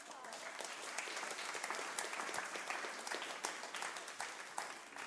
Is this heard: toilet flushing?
no